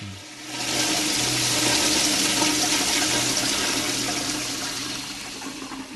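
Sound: toilet flushing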